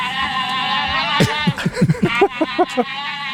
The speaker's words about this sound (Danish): Jeg tror, det er en flok gedder. Jeg tror, det er en flok gæs. Det er forkert. Nå. Det er kæmpeødder. Oh! Brasiliansk kæmpeødder, eller hvad den hedder. Det er i hvert fald kæmpeødder.